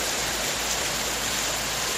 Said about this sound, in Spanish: A pocas horas de que dé comienzo el otoño, nueva jornada de tormentas en nuestro país. Tormentas que este sábado han caído con mucha intensidad en la Costa Brava.